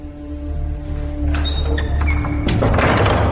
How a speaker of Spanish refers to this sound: Me habían dado instrucciones explícitas, llamar tres veces a la puerta, para acceder a este templo al que normalmente no se puede entrar.